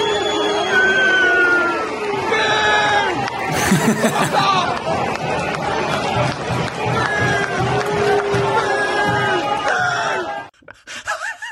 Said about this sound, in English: always enjoy a Premier League soundtrack of booing on a winter's late afternoon. But this was great. This is Everton fans booing off their team at Bournemouth, but conspicuous mainly for its isolated enunciations of booing.